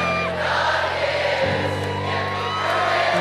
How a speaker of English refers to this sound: He was having trouble singing, so the crowd of perhaps 100,000 jumped in while he looked on.